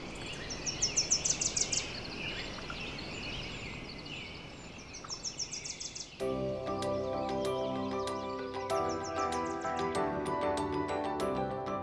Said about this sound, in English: You've got valleys filled with bird song.